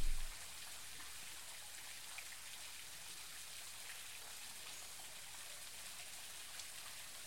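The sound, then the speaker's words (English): A steady, unbroken rush of falling water from a waterfall in a rainforest, holding an even hiss throughout with no voices or other sounds. “The energy of the waterfall and the rainforest infuse you with a deep sense of peace and tranquility.”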